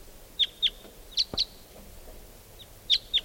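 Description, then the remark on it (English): A wild type 2 bird, coming in toward calling decoys, calls in short, high-pitched paired notes: three quick double chirps spaced across a few seconds over a soft background hiss, with no voices present. “One of the wild birds must be coming in or calling.”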